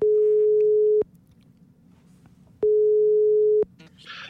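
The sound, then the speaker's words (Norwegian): A phone's outgoing ringing tone: two steady, clear one-second beeps separated by a pause of over a second, fairly loud over a faint background hum, with no one speaking. “Vi ringer”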